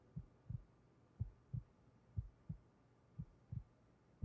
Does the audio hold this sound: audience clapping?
no